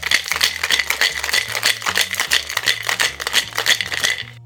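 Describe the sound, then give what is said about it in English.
Rapid, steady rattling of ice knocking inside a cocktail shaker holding gin, grain vodka and Cocchi Americano for a Vesper martini, loud and bright, goes on for several seconds over a low, soft bass line before stopping abruptly. “Shake very well.”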